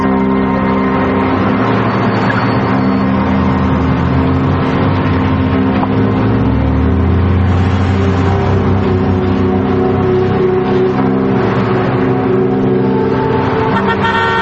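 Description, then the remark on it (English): A car engine hums steadily as the vehicle drives through a small town, with a few horn toots and bursts of revving rising over the continuous road noise. No one speaks. “They drive through a small town.”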